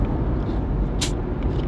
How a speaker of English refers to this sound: That little hiss came from a Diet Mountain Dew.